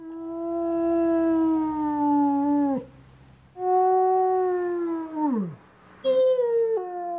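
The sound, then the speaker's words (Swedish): A wolf howls in long, sustained tones, three drawn-out calls with the second sliding downward and a shorter rising one at the end, clear with no talking. “Det var visst en till varg som ylar där.”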